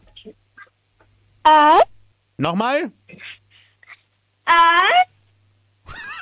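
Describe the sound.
A 10-year-old girl from Styria, Austria, imitates a wolf at Radinos Mini-Disco, giving three short, high howls with bending, sliding pitch, separated by pauses, and a brief spoken question between them.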